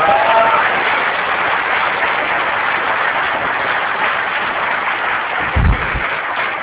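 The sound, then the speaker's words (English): Sustained applause from the audience at the LCA conference, thanking its organiser Rusty Russell, a dense steady patter of many hands clapping at even loudness throughout, with a brief louder thump near the end. “He does a hell of a lot, so I reckon he deserves a round of applause.”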